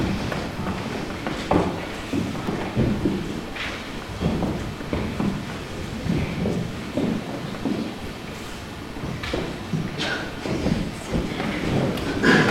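Quick footsteps of several shepherds running off toward the town, an irregular patter of thuds on hard ground that carries on steadily for the whole stretch.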